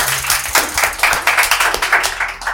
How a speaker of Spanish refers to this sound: Aplauso